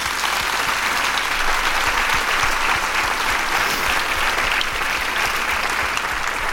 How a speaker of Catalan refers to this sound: I si us plau, els hi demano un aplaudiment pels corranters que ho fan possible. Gràcies.